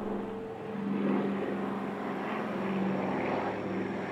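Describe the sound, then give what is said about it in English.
A steady, loud roar of an aircraft engine, most likely a propeller plane, on the tarmac of Port-au-Prince Airport in Haiti, recorded right after the earthquake, droning with a low humming tone, swelling slightly and holding constant throughout, with no voices. “It's from the tarmac of the Port-au-Prince Airport and from the medical tent in Haiti.”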